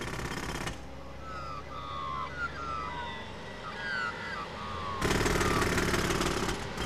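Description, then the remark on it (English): A jackhammer rattles loudly in rapid, continuous bursts as it demolishes a street to put in tram stops, stopping for a few seconds while birds chirp and traffic hums, then pounding away again. “That jackhammer is relentless.”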